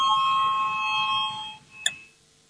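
parliamentary voting bell ringing

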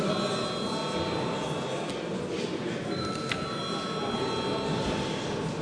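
parliament chamber bell

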